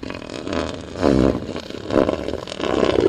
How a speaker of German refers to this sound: That's a male. He's not farting. He's just showing his opinion. Menschen sehen sie so gut wie nie. Angst haben sie keine. Das hier ist ihr Territorium. Das machen die Seeelefanten laut grunzend klar.